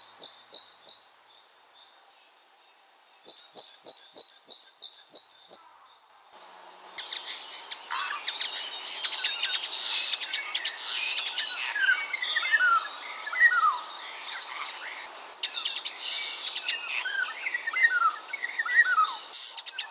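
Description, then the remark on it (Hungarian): A starling, recorded at Lake Kondor, sings, mimicking a coal tit with short bursts of repeated high two-note phrases, then breaking into a dense stream of chattering, whistled and fluty notes imitating a golden oriole. “A kondortavi hangfelvételen a seregé fenyves színegét és a sárga rigó flótázását utánozza.”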